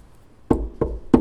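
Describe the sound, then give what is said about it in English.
Three firm knocks on a wooden door, evenly spaced, with a quiet pause before the first and no voices. “When you hear the knock, "Oh, it's the master.”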